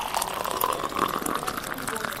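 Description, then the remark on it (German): Hot water being poured into a cup, a steady gurgling splash that runs continuously for a couple of seconds at moderate loudness. “Und das hier ist heißes Wasser.”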